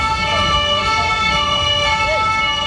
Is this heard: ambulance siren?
yes